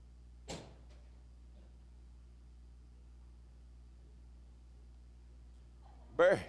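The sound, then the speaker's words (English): A sharp latch-like click as a back door is unlocked, then several seconds of low steady hum before the back door rattles and creaks open, louder than the click. “Is that back door locked?”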